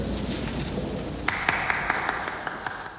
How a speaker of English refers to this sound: The one person applauding that speech is the film's central character, Max Fisher.